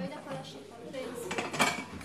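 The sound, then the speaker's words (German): A female caregiver loads glasses into a dishwasher in a common room; glasses and dishes clink and rattle in a busy clatter of several bright knocks over about two seconds, with a faint murmur of room noise. “Im Gemeinschaftsraum räumt eine Pflegerin Gläser in die Spülmaschine.”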